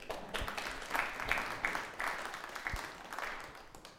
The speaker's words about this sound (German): Finde ich, ist auch mal ein Applaus wert. Ihr dürft euch selber mal beklatschen.